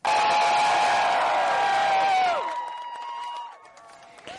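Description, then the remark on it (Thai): A large crowd cheers and whoops outside the US Supreme Court in Washington on a Friday, after the justices voted 5-4 for same-sex couples' constitutional right to marry, with a loud, sustained roar of voices and high shouts, then the cheering drops to a lower murmur with scattered calls before tapering off. “คนจำนวนมากโห่ร้องยินดีที่ทำการของศาลสูงหรือ Supreme Court ของสหรัฐในกรุงวอชิงตันเมื่อวันศุกร์หลังจากคณะผู้พิพากษาลงคะแนน5-4สนับสนุนสิทธิตามรัฐธรรมนูญให้คนรักเพศเดียวกันสามารถแต่งงานได้ทั่วสหรัฐ”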